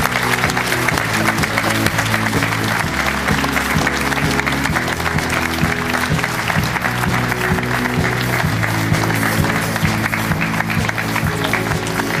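A studio audience on the Doppelpass show claps steadily and loudly for about twelve seconds to welcome Rashid Assouzi, sporting director of Greuther Fürth. It is a dense crackle of many hands, with music playing underneath the applause.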